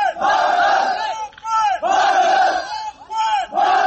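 Several hundred people chant loudly in unison, calling on Hungary to open its border, repeating a short phrase in rhythmic bursts of about a second each, with brief dips between the shouted repetitions.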